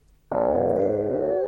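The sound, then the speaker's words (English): A stomach rumbles with a loud, sustained growling gurgle that starts abruptly and holds steady for over a second, low and tonal, with no talking over it. “Does your stomach rumble much?”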